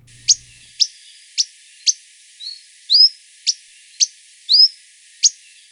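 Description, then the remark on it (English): Repeated high, thin chirps from an Akikiki (Kauai creeper), a small endangered forest honeycreeper found only on the island of Kauai, Hawaii: about ten sharp notes spaced roughly half a second apart, a few stretched into short rising whistles, clear with no talking. “Also known as the Kauai creeper, they're an endangered forest bird that's found only on the island of Kauai.”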